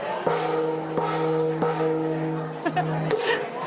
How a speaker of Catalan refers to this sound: Doncs sentiu aquest gong, sí, i sentiu canvies